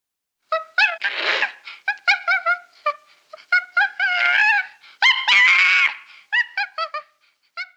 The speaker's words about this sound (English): What's that? It's a monkey.